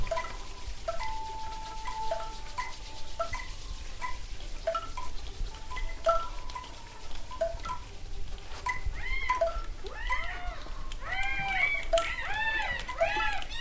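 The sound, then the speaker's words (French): Gulls call repeatedly over a steady low rumble of wind or surf, short sharp cries at first, then a busier stretch of overlapping, arching squeals near the end. “Mouette gris et goéland.”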